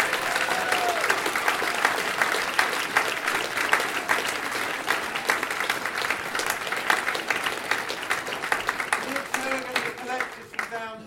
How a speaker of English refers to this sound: Well done to everybody. Thank you to everyone's support. Give them another huge round of applause.